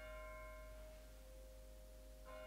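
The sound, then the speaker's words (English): A faint bell rings with a long, humming tone that lingers, then is struck again near the end. No one speaks. “Can you hear the bell?”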